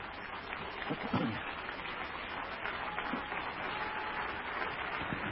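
An audience at a church service clapping for the Lord, a dense, steady patter of many hands at a moderate, even level that carries on unbroken for several seconds, with no clear speech over it.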